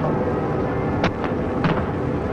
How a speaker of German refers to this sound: Condor legt ab und vom jenseitigen Rheinufer beginnt, wenn ich es richtig höre, der Salut. ...23 Schuss Salut wird es hier